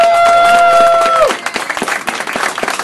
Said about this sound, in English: He couldn't make it tonight, but I would love to lead us in a round of applause for our Michael.